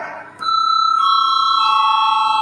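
parliamentary voting bell ringing

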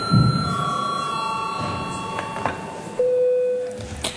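parliament chamber bell

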